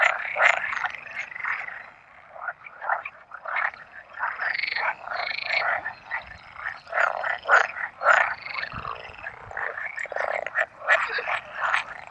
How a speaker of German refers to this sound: Während der Paarungszeit im Mai können Sie an unseren Teichen häufig ein lautes Froschkonzert hören, das wir Ihnen hier gerne einmal vorspielen.